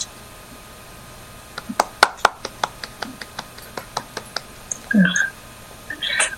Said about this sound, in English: Please help me offer a warm Tulare County welcome with a virtual hand clap to our speaker